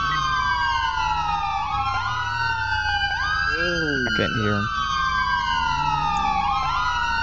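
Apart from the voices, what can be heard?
emergency vehicle sirens wailing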